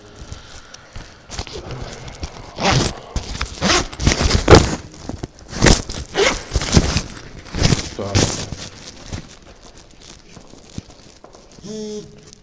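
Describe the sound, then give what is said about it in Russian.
A piece of paper is crumpled and torn, a run of loud, rough rustling bursts over several seconds, followed by quiet and a brief voice at the very end. “Да, кусочек бумаги.”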